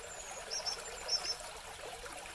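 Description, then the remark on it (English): Water trickles gently and steadily into a water basin in the gardens of the Japan House on a university campus in Champaign, a soft continuous dribble, with two faint, high chirps briefly rising in the background. “you're called to stroll through its twisting, winding paths that curve around through its gardens, filled with rustic stones, green bushes, and calming, tranquil water basins.”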